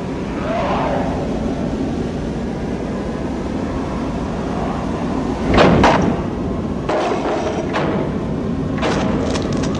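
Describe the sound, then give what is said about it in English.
The front doors of a cabin bang violently open as an unseen entity rushes through the cabin: a loud crashing thud, then several sharper wooden knocks and bangs in quick succession, over a constant rushing, rumbling background noise. “rushing through the cabin, bursting the front doors open, and attacking Ash, who screams out”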